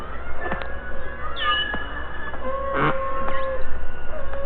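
Beluga whale vocalizations: a run of high, wavering whistles and squeaky chirps mixed with short buzzing pulse bursts over a steady background hiss, with no talking.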